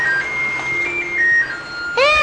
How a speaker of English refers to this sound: Tell mommy the telephone's ringing.